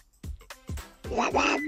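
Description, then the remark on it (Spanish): A listener imitates a duck, giving several quick nasal quacks in a row, loud, with no other sounds around them. “su pato particular.”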